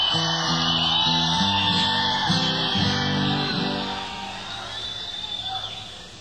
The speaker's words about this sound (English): If I say a couple of things and you don't react, then I say, we're going to be here for a while, and you all yell, and I feel good, and you feel good.